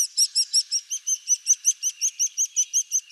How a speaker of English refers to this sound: Begging calls from nestlings seem to work beyond a bird's own species. While one species caring for another is rare among birds, the fact that it does sometimes happen shows just how powerful the sound of a begging chick is to an adult bird.